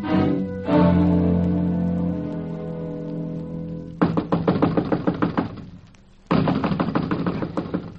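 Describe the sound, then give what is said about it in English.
A sustained musical chord fades out, then knuckles rap rapidly and loudly on the door of a house in two insistent bursts separated by a short pause, with no talking. “I'm wearing my knuckles to the bones knocking on this door, Chief.”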